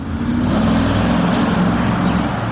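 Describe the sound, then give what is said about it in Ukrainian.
Security guards pull two cars up to an exit of the Carnegie business centre in Kyiv on 22 June, the engines rumbling steadily at low pitch, a continuous loud vehicle hum with faint road noise and no voices. “Охорона підганяє 2 автівки під вихід.”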